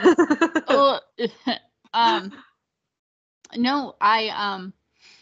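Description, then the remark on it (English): Someone coughs and clears their throat in a rough, voiced fit: a rapid string of bursts, a brief pause, then another harsh cluster. “I had a train pass me before and now you have a coughing thing.”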